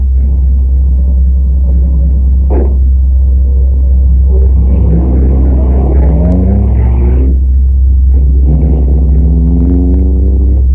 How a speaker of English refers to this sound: You get back to the car fast and drive off.